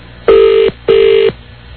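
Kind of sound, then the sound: signal or alarm, telephone ringing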